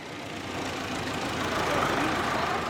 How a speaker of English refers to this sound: A large truck arrives bringing clean water for refugees.